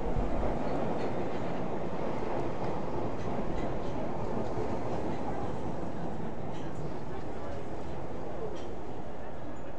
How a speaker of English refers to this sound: I think it's on the other side. Oh, yeah. It sounds like a Victoria line. Different sound of trains.